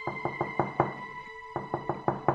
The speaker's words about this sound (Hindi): सामने के घर की कुंडी खटखटाई।